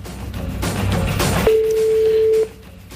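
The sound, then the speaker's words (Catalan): A steady electronic ringback tone of an outgoing call to a red mobile phone sounds for about a second, following a stretch of noisy, busy background, then cuts off abruptly. “Va, que troqui o que soni el mòbil vermell.”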